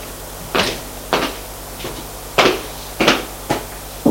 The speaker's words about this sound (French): Sa mère, orgueilleuse, sort du salon. Pour aller frapper à la porte de la chambre de sa fille.